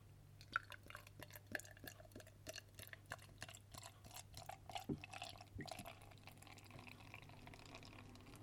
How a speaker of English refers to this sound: So it's quite a light beer. Pours a bit like lager.